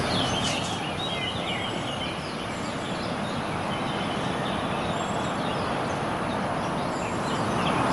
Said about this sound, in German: Da sind die Vögel, da ist das Meer. Das ist auch eine Stille.